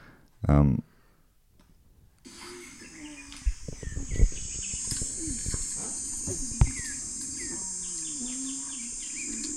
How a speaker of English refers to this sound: Man, I love those bird sounds. They don't only sing for their supper.